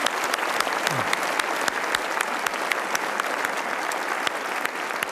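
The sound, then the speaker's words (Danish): A crowd claps steadily and loudly for several seconds, a dense wash of many hands with sharp individual claps standing out, filling the whole clip with no pauses. “Klap til jer. Klap til alle jer.”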